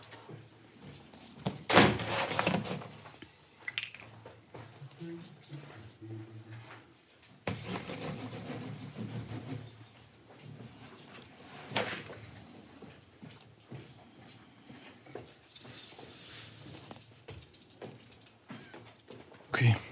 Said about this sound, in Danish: I får åbnet døren op og træder ud på den her kirkegård.